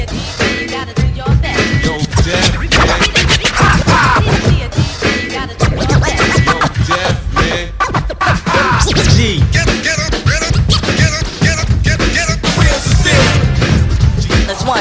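A DJ scratches records on a turntable, rapid and aggressive, over a fast-paced pounding beat, loud and continuous, with sharp back-and-forth record cuts stuttering in quick rhythmic bursts throughout.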